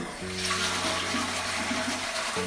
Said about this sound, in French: Des douches. Des toilettes.